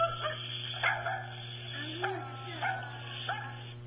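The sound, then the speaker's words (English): A dog barks about five times in short, sharp bursts at an uneven pace, heard through a thin, muffled recording with a steady low hum running underneath. “Well, yeah, it's a dog.”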